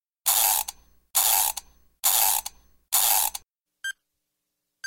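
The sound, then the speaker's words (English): A wind-up timer is cranked to start a 30-minute question session in four quick ratcheting twists, each a loud buzzy burst, followed by a short, bright tonal chime and another brief one at the end. “Start the timer.”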